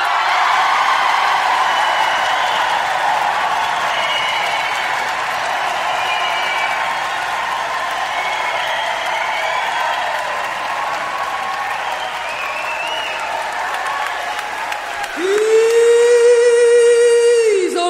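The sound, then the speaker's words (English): Loud, sustained applause from a large crowd fills an echoing town hall for several seconds, then gives way abruptly to a steady, buzzing electronic tone near the end. “The town hall is shaking with the applause of the people.”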